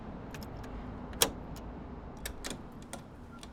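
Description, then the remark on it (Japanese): Keys jingle briefly, then a sharp metallic click of a lock turning as a house's front door is unlocked, followed by a few more light rattles over a low, steady background hum. Fairly quiet. “じゃあ鍵開けてください。”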